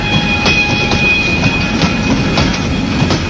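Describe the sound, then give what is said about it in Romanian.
A train rolls past, its wheels clattering over rail joints in a steady rhythm beneath a loud, continuous rumble, with a thin metallic whine running throughout. “Pot să mă aștept un tren.”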